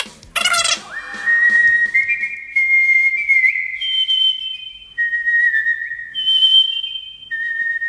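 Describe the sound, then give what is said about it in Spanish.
A woman whistles a cantata alone at the Corral de la Comedia in Alcalá de Henares, clear, with sustained pure notes that glide and shift in pitch across several phrases after a brief breathy start. “Que silbe, va, que silbe.”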